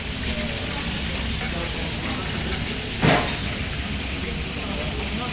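Pans of Bresse chicken simmer on a stove at 9 a.m. in the kitchen of the brasserie Le Français, avenue Alsace-Lorraine, Bourg-en-Bresse, as the chef and his team prepare the meal, with a steady, dense, moderately loud sizzle and bubble, broken briefly by a sharper clatter just past the midpoint.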